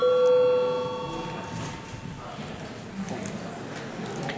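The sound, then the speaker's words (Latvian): A session bell in the Saeima rings for a break with a steady, even electric tone for about a second, then its ringing fades away beneath a low murmur of voices and room noise. “Lūdzu zvanu.”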